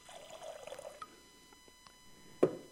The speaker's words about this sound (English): Took a pitcher of water. He poured that pitcher of water into a bowl.